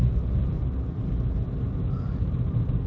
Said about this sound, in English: Once again, I am recording from my car on the drive home from work, so I apologize for the recording quality. I listened to my last one and I realize there's a lot of environmental sound, but please bear with me.